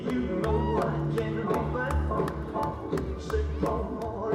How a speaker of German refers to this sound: Das Staccato der Holztrommeln begleitet viele polynesische Tänze, die auch im Circus Samoa zum Standardprogramm gehören. Ursprünglich waren die Holztrommeln hier, wie auch in Afrika, ein Kommunikationsmittel.